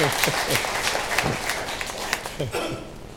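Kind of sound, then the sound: crowd, audience cheering and clapping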